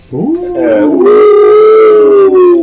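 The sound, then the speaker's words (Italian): A cat named Cosmo lets out one long, loud yowl that rises at the start, then holds a steady, strained wailing pitch for over two seconds before sagging slightly at the end. “Guest starring Cosmo, il gatto, esatto. Stava morendo male.”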